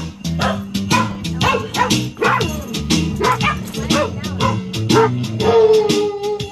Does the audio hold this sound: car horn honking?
no